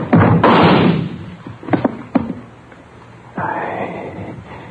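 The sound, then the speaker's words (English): A sharp, loud gunshot rings out in the dark, the bullet splintering into a wooden chair, followed by a couple of hollow wooden knocks and thuds as the pushed chair tips over and clatters, then another heavy burst of noise. “The bullet splintered into the chair before it even toppled over.”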